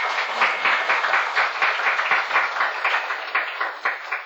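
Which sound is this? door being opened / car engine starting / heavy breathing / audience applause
audience applause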